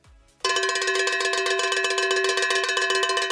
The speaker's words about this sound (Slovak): Lebo krávsky zvonec.